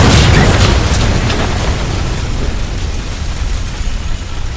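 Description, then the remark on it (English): A loud plane crash explosion as a plane, levelled out from its dive, crashes into a forest canopy, bursting out at once, a broad roaring blast that settles into a deep, rumbling tail fading steadily over several seconds, with no voices. “But you did succeed on your piloting row, so you're able to at least get the plane to level out a little bit so it's not a complete dive into the canopy, and you guys crash.”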